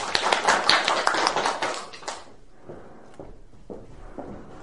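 A burst of audience applause, dense and fairly close, lasting about two seconds before dying away into a few scattered claps and faint taps in a quiet room.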